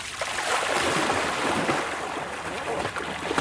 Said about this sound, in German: Ein paar Schwimmzüge.